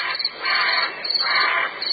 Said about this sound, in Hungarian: A kórház előtti bujufán hangosan veszekednek a varjak.